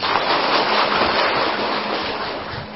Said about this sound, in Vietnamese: Và đặc biệt đạo tràng này sao nhiều lứa tuổi, từ người lớn cho đến em bé chút ác ở ngoài sao cũng đi vào đạo tràng, cũng mặc được cái pháp y vô cũng đỏ sáng ngời ngời vàng rực rỡ, cho đạo tràng một tràng pháo tay.